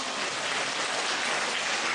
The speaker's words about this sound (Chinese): 啊，鼓掌啊！